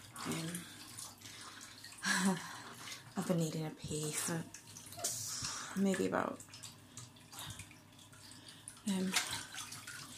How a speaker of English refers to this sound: stretched out in the bath at the minute. So you could hear the water running.